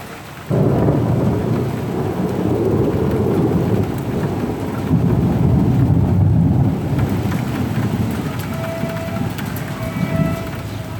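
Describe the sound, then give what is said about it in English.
Deep, rolling thunder rumbles continuously for several seconds in Lyon, loud and low, with the steady hiss of rain underneath and no voices. “Thunder in Lyon.”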